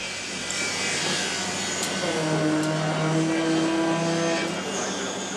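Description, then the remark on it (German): Busy construction site ambience at Heidestraße, north of Berlin Hauptbahnhof, Germany, one of the country's largest construction sites, with a steady roar of machinery and engines, whining mechanical tones rising over the noise, and faint voices in the background. “Eine der größten Baustellen Deutschlands.”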